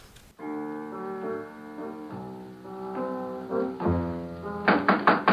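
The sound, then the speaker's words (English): Sustained musical tones play throughout, then near the end a quick series of about four sharp, fairly loud knocks lands on a door, a special delivery arriving. “Well, who's that knocking at the door?”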